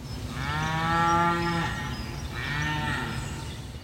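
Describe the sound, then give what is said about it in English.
A cow moos twice, a long, low, drawn-out call followed by a slightly shorter one after a brief pause, loud with no one speaking. “Computer, show me a cow.”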